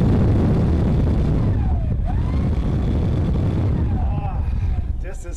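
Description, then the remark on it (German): A standard commercial leaf blower roars inside the Blasomat, a leaf-blower photo booth by two Berlin artists shown in a museum, in a loud, steady blast of rushing air with a heavy low rumble and faint whistling tones drifting through, easing slightly near the end. “So ist ein handelsüblicher Laubbläser, der einmal ordentlich anbläst.”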